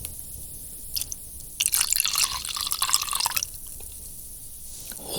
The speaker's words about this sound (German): Und dann ist es einfach Zeit für Gänsehaut. Ich gieße jetzt den Wodka auf den Babybrei.